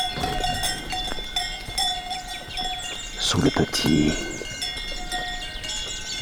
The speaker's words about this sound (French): Vous marchez accompagné par les sonailles. Des vaches gasconnes.